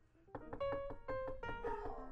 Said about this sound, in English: I don't know if you can hear them, but that makes Socks the dog bark. That's right, Irving Brown Socks. The dog, he barks when somebody knocks at the door, especially if it's a polar bear.